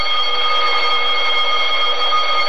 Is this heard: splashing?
no